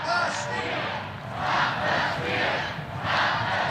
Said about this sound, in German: Stop the steal. Stoppt den Stimmenklau, skandiert die Menge vor der Kulisse des Kapitols.